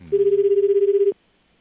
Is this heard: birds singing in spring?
no